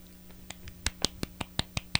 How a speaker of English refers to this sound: I don't know how clapping sounds on this thing, but that probably was awful.